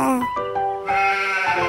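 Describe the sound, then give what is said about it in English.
A hungry cartoon sheep in a Baby TV clip from Fox, in which Oliver the cartoon monkey feeds farm animals, bleats in two wavering, nasal calls, loud, with a strong harmonic tone that quivers over nearly two seconds. “Aha! The sheep is hungry as well.”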